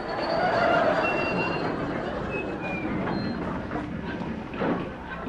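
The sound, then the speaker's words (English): A steady rumble of a train rolling along the rails, with thin high metallic squeals drifting over the clatter for the whole stretch. “It's the 10:23 special calling at all stations to Haywards Heath.”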